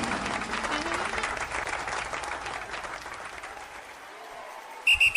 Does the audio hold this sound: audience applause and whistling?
yes